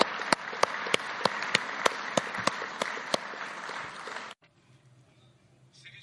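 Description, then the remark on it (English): A crowd applauds a company's employees for their work at a company results presentation, in a dense, steady wash of clapping, with a few sharper claps popping out at a regular rhythm, for about four seconds before cutting off abruptly into near silence. “We can applaud them for the remarkable job done.”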